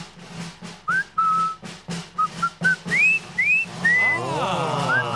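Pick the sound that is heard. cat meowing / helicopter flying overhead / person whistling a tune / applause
person whistling a tune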